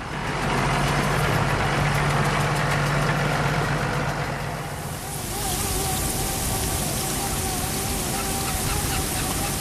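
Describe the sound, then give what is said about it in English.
A tractor spreading slurry in a field runs steadily, a loud continuous drone wrapped in a heavy hiss, its tone shifting slightly about halfway through without ever stopping, while a 4-inch wide hose pipe is dragged through the grass behind it. “A 4-inch wide hose pipe is dragged through the grass behind a tractor that's spreading slurry.”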